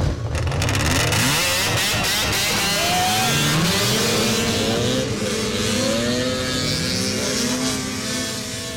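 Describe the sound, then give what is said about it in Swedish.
Several snowmobile engines rev and drone continuously as riders test-drive them, pitches rising and falling as they accelerate, loud with overlapping motor whine throughout. “Några av killarna har varit uppe redan och provkört sina skotrar.”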